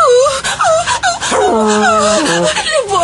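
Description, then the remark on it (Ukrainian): Bush's dog growls loudly, a continuous, wavering snarl with whiny rising and falling tones that lasts about three seconds without pause. “Загарчав бушів пес.”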